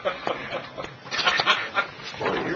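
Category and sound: animal, dog vocalizing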